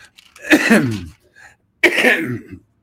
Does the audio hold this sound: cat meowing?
no